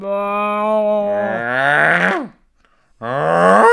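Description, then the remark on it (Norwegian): A voice imitates a deer's bellow: a long, loud, moaning call that rises and then sags in pitch, a brief silence, then a second bellow starting up. “Du er hjorten.”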